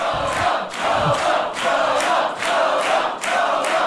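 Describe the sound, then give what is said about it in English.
A crowd at an arm wrestling match cheers loudly and steadily, its roar swelling and dipping in a quick, regular rhythm almost like a chant, with no other sounds breaking through. “The most predictable outcome has excited the crowd.”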